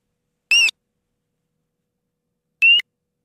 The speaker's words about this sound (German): Das erste ist eine Zwergdrossel, das zweite eine Herbstpfeifgans.